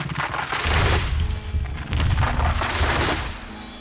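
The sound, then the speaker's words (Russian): Two heavy crashes of falling trees, each a deep, rumbling boom with a noisy splintering rush, one right after the other, loud and with no voices. “Кришна тянул и тянул ее до тех пор, пока оба дерева не повалились с грохотом на землю.”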